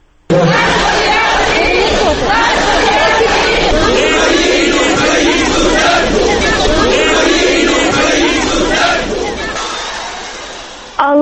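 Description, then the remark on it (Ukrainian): A large protest crowd in Rivne, Ukraine, shouts slogans in unison during a visit by the Patriarch of the Moscow Patriarchate. It is a loud, dense roar of many voices chanting and yelling that stays steady for about ten seconds before trailing off. “Відповідно, різнилися і вигуки.”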